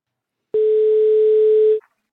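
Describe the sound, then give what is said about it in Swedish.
A single steady telephone ringing tone, an outgoing call's ringback on a call to the Gävlebocken (Gävle goat): one clean, fairly loud beep lasting just over a second, with silence before and after and no voices. “Så Ford Tord ringer i Gävlebocken och kollar ifall... när han ser elda upp den.”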